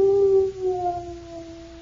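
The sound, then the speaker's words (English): A gloomy dog howls in one long, mournful wail, its pitch sliding slowly downward and holding steady, fairly loud, with no talking over it. “And because Jimmy was so gloomy, Jimmy's dog felt gloomy, too.”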